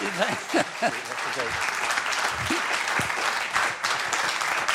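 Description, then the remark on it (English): A crowd applauds an author who wrote a biography of Superman, a dense wash of many hands clapping at an even loudness throughout, with a few scattered voices and cheers audible underneath. “But could we give him a wonderful round of applause for, if nothing else, reading the book twice?”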